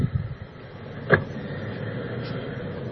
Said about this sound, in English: I'm parked across the street taking a peek, and already there are one, two, three, four people on the sidewalk, and the familiar squad car rounding the bend and slowing down.